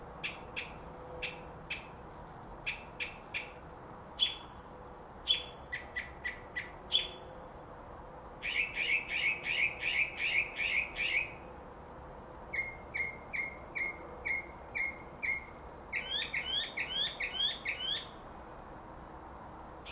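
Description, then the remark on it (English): A bird squawks and chirps outside a window at night, around 1 a.m., having kept at it for hours, cycling through a varied string of repeated high-pitched calls in quick rhythmic bursts, fairly soft and alone with no talking. “This bastard has been squawking for hours.”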